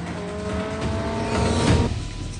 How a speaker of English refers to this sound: The trio of black cars with green neon underlights charge down a multi-lane road alongside a truck.